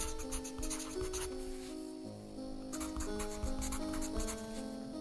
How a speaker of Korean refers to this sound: 가게 안엔 한동안 모자란 비품을 체크해 메모장에 적는 소리만 난다.